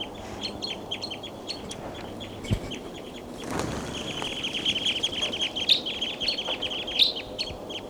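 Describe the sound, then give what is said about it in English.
A flock of seven perched birds keeps up a dense, overlapping chatter of high, sharp calls throughout, with a brief rushing flutter partway through as they take off. No one speaks. “They're all perched on top of and they're calling a lot.”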